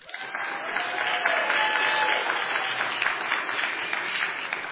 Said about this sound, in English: You know, I saw some people that weren't even clapping. So that wasn't even a one.